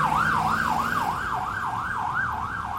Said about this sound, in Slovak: Alexa naložili do sanitky. Vozidlo sa pohlo a majáky začali hulákať.